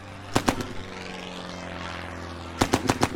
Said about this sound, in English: They could see the faces of Japanese pilots in their Zero planes as they flew so low over the village that, you know, they were banking around the village and they could actually see their faces.